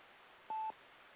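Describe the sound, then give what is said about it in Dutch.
A single short electronic telephone keypad tone, steady and clear, lasting about a fifth of a second over a low background hiss, with no one speaking. “Nou, ik denk dat Wibberen een telefoon heeft.”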